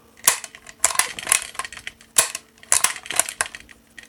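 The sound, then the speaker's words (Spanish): The bolt of a rifle loaded with a five-round clip is worked back and forth repeatedly to chamber the next round, giving sharp metallic clacks and rattling clicks in quick clusters, with short pauses between strokes and no voices. “se le mete un clip con 5 tiros, se cierra, se dispara, y para pasar el siguiente tiro solamente hay que hacer el movimiento.”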